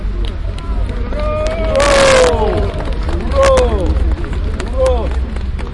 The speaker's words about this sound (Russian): После закрытия митинга аплодисменты. Позвольте считать ваши аплодисменты за то, что вы принимаете эту резолюцию.